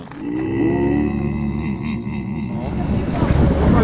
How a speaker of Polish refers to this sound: Płyniemy, jesteśmy na łodzi. Z jakiegoś powodu przesiedliśmy się z rowerków na łódź. Wypłynęliśmy właśnie skąd? Z Wrsar.